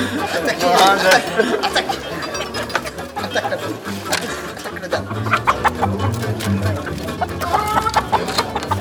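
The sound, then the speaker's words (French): A rooster clucks repeatedly amid dense, busy poultry chatter, loud, with people talking underneath throughout. “C'est un coq, ça, hein. Ça s'entend.”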